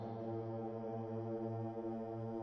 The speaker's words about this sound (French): Les avions de bombardement sillonnent le ciel de France.